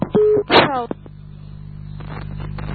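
A brief electronic telephone dialing tone sounds, followed by a short harmonic burst, then a steady low hum with faint rustling and clicks continuing underneath.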